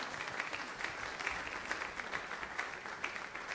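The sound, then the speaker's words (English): An audience at a morning worship service applauds to welcome visitors, a dense, steady patter of many hands clapping at once, sustained at an even level with small bursts throughout and no voices standing out. “Now everybody clap and welcome them, will you?”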